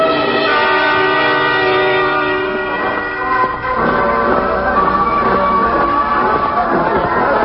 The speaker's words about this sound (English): Yes, I hear a band. It must be the first parade of the season.